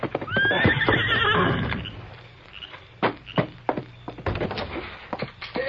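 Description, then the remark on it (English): A horse, Silver, gives a loud, shrill whinny with wavering pitch, then hooves strike the ground in an uneven run of sharp clip-clop beats as the Lone Ranger rides up to a small way station at Wolf River Crossing near midnight and the animal slows and settles. “It was nearly midnight when the masked rider of the plains thundered up to the small way station at Wolf River Crossing.”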